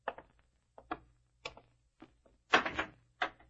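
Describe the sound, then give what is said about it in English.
A heavy door clunks and rattles open, then shuts with a louder thud and clatter, a string of sharp knocks with brief silences between them and no voices. “No, don't lock the door. The guards are coming.”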